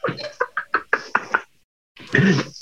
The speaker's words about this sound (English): Knock, knock, knock. Domino's. How you doing, Domino's?